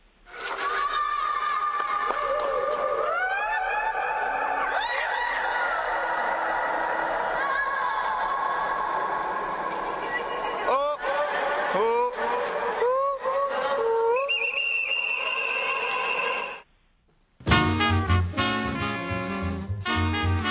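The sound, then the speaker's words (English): A crowd of Indian visitors shrieks and yells in overlapping, high-pitched bursts that ring and echo through a vast mausoleum under a huge dome, a huge cavernous space, a steady loud din for about sixteen seconds before music cuts in. “It's a vast mausoleum, and it's got a huge dome on top, but it's quite popular with the Indians going along to visit, and they like to shriek and make lots of noise in it. So it is quite a huge cavernous space.”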